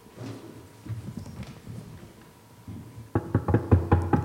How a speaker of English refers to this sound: Who's knocking at my door this dark, cold night?